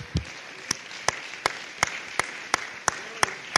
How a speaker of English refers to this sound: Amen. Let's clap our hands. Hallelujah.